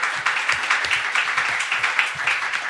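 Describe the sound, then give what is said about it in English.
A crowd applauds steadily, a dense wash of many hands clapping at a fairly even, moderate loudness with no voices rising above it. “More applause.”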